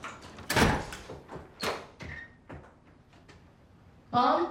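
A front door is unlocked and opened at night: a run of sharp metallic clicks and rattles with a few louder knocks, a brief squeak, then a final burst of creaking, rustling movement.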